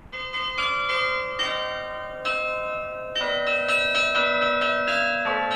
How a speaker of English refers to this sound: Mixing church bells and hip-hop might sound crazy or gimmicky, but it's kind of a throwback to the old days of bells and bell ringers